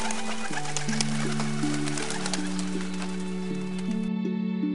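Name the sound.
dove cooing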